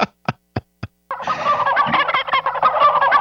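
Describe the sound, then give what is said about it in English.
Four sharp, evenly spaced clucks, then a loud, dense chorus of squawking and gobbling poultry breaks out and continues without pause, like a crowded chicken yard. “No, I don't like that sound. I never like chicken coops or chicken yards.”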